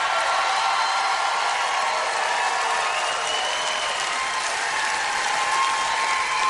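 Steady, dense applause from a crowd as the members of a band are introduced, a continuous crackle of many hands clapping at an even loudness for several seconds, with faint whoops and voices mixed in.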